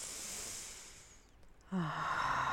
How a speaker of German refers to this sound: Also tief durchatmen, atmen Sie mal bewusst ein paar Mal tief durch.